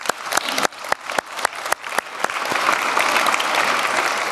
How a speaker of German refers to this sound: Ich denke, ohne euch würden wir hier alle nicht sitzen. Deswegen nochmal kurz ein Klatschen in die Runde zum Wachwerden.